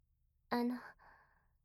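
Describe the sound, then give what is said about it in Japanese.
One yawn: a sudden, fairly loud voiced vocal note that quickly gives way to a softer, breathy exhale trailing off, heard alone with no talking. “割と真面目なお話をしていたつもりだったのですが、あくびしちゃうんですね。”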